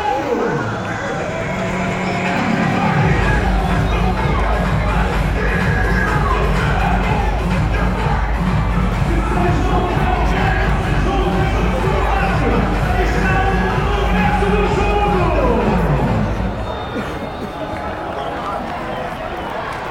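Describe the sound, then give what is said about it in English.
A football stadium crowd at a Benfica match roars and cheers in a dense, continuous wall of voices that swells after a few seconds, holds steady, then eases off slightly near the end, ahead of the second half. “Crowd very much up for this one.”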